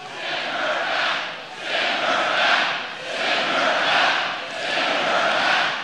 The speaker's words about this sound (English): The crowd chanting, send her back, from that rally in Greenville, North Carolina on Wednesday.